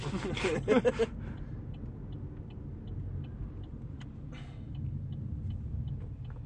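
An automatic car wash runs around a car: a burst of loud hissing spray, then a steady low mechanical rumble with faint regular ticking and occasional whooshes.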